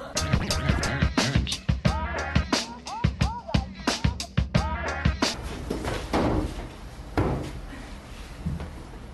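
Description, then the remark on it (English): People hold chairs and move around with them during an improv exercise, with a rapid series of wooden knocks, clunks and bumps, some short squeaks, then a looser, noisier scuffling toward the end. “So we're holding these chairs, and we're just kind of moving around.”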